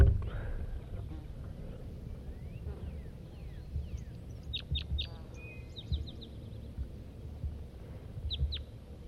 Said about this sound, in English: It's 9 o'clock now, 9 o'clock a.m., and there's a wild crossbill here. Red male.